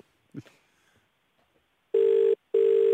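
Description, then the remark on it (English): An outgoing phone call ringing: two long, steady electronic ringback tones separated by a short pause, loud, after a brief soft rustle and no talking. The caller is phoning his wife. “All right, let's give you a call. It's ringing.”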